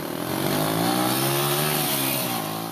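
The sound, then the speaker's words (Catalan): A large-displacement motorcycle engine roars, a loud, steady growl whose pitch swells slightly as it revs, with no voices over it. “Em va fer pujar una moto de gran cilindrada.”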